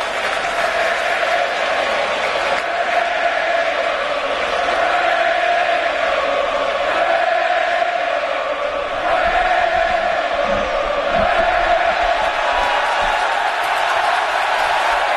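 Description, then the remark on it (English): A packed, standing-room-only ballpark crowd roars steadily, cheering and jeering to rattle the opposing pitcher in a dense, unbroken wall of noise that stays loud from start to finish. “the standing room only crowd trying to get under Johnny Cueto's skin, and they might be”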